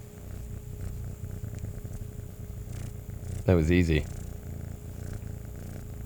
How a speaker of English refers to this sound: Oh, yeah, really small kitty. He's definitely a little petite guy. He's gonna grow a bit bigger, but he'll grow into his purring. Yeah, he's got quite a motor on him.